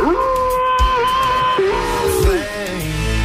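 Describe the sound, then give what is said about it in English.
A person's voice imitates a wolf howl: a long, wavering sustained tone that rises and dips over about three seconds, loud, with no words. “The weekend's here and I need a wolf howl.”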